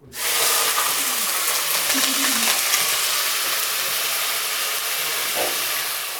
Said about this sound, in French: On n'utilise pas l'huile d'olive parce que le goût particulier est très fort. Pour éviter que la viande colle au fond de casserole, il faut attendre que l'huile soit vraiment très très chaude.